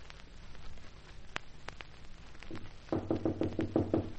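A rapid, insistent burst of about six or seven urgent knocks on Boyd's wooden door, loud, preceded by a few scattered taps over a faint hiss of background noise.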